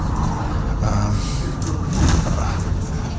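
A steady, low engine rumble fills the cabin of a moving bus, heard from the back of the bus, a constant drone with faint rattles and a slight swell partway through, with no clear voices.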